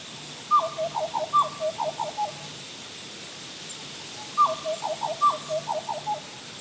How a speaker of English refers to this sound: What was that? It sounded like a black butcher bird. Their cry sounds a bit like a flute. If you haven't already closed your eyes, close them now and listen carefully. You might hear the butcher bird sing again.